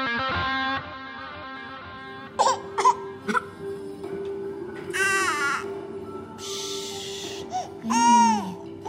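A baby cries in short, strained wails with harsh, raspy bursts in between, loud, rising and falling in pitch over a low steady background hum.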